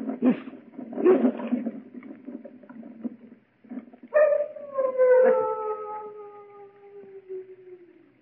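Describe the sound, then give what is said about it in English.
Large dogs, many of them kept at the Château d'Azay, howl: a low, rough stretch of sound giving way to a long, sustained howl that slowly slides downward and fades, with no talking over it. “Only the dogs, monsieur. They keep many dogs, large dogs at the Chateau d'Azay.”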